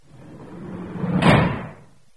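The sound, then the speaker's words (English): The door of a portable refresher (toilet) swings and is slammed shut once, the whoosh building to a loud impact just past the middle before the rumble fades away. No one speaks. “emerged from the portable refresher, slamming the door behind him as if to prevent something horrible from escaping.”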